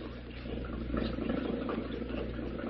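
boat motor running

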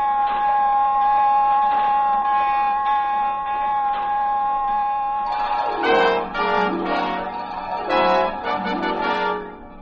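submarine general alarm

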